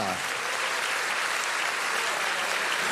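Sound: audience applauding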